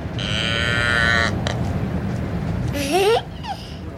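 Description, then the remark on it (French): A cow moos in a sustained, buzzy tone for about a second over a steady rumbling background, followed by brief squeaky, rising chirps; no one speaks. “C'est une vache.”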